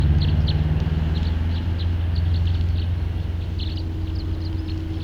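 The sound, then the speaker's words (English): A really big flock of birds somewhere off to the west chatters faintly, with many brief high chirps scattered steadily throughout, over a loud, constant low rumble like an idling engine. No one speaks. “Sounds like there's a really big flock somewhere off to the west.”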